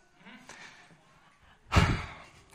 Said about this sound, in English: Heavy breath